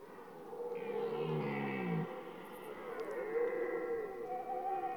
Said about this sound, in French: Et toujours le brame du cerf. Le cerf, et c'est le mâle qui brame. Hein. Voilà. Pour s'approprier un harem.